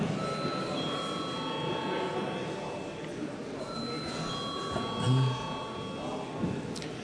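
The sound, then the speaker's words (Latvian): A parliament voting bell, called for by the chair before a vote, rings as a steady, high electronic tone for several seconds, pausing briefly midway, over a low murmur of voices and shuffling. “Lūdzu zvanu.”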